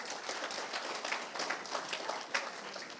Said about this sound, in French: Et je ne parle pas de l'équipe d'accueil parce que je trouve qu'ils font un ministère vraiment génial et on peut les applaudir pour ce qu'ils font.